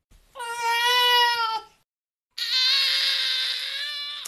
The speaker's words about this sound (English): I'm going to play two of them here. And these are from the study itself. These are the sounds of baby cries used in the study.